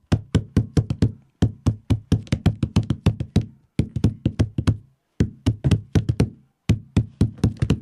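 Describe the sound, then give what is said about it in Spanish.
A tapetán rhythm: a pattern of sharp knocks tapped on a school tabletop, quick bursts of strikes grouped into repeating phrases with brief pauses between them, played alone with no talking. “Sí, bueno, en clase estamos ya con el tapetán en la mesa, que en vez del lapicero para escribir, le usan para el tapetán.”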